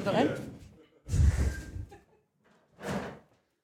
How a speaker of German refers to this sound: Machen wir so einen virtuellen Rundgang, die Tür geht wieder auf.